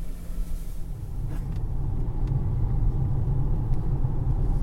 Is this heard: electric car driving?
yes